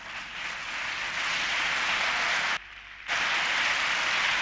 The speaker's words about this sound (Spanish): Aplausos para ya la presidenta de la Comunidad de Madrid, Cristina Cifuentes.